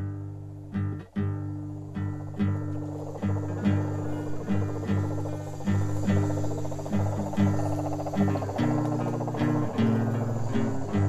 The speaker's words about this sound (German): In der Nacht halten mich die Gesänge der Kröten unten am Fluss noch lange wach.